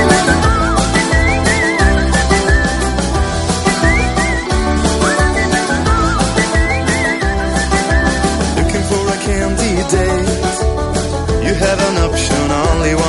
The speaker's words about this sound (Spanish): Su tema … empieza con un silbido y eso es lo que más nos llama la atención